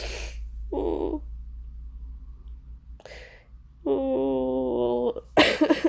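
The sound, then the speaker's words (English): Several short, harsh coughs from a sick person, spaced irregularly, with a drawn-out voiced groan between them before a final rough burst at the end. “I hate this cough.”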